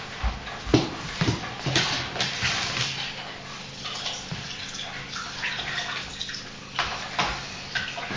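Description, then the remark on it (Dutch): Water sloshes and splashes in irregular bursts, with sharp slaps and trickling between them, as a doll is bathed and moved around in a small tub. No one speaks. “Oh, je bent een pop in het bad aan het doen?”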